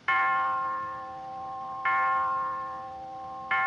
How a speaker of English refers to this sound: And as she says this, Harpo is playing with a clock, which rings.